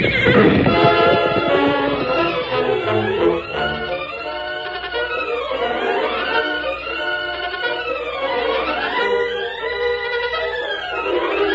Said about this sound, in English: He's down. That horse is gone from him.